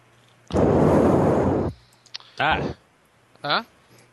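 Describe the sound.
A loud, rushing breath blasts straight into a microphone for about a second, harsh and windy, followed by two short fragments of someone's voice.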